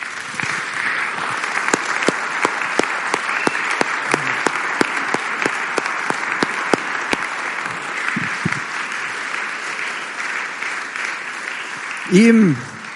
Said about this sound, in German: Ach, liebe Leute, lasst uns doch mal unserem Herrn Jesus einen richtigen Applaus geben.